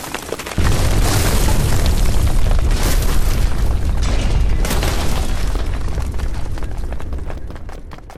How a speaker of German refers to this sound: Die Decke stürzt ein! Der Toy Room bricht zusammen!